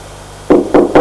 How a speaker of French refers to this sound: On a frappé à la porte.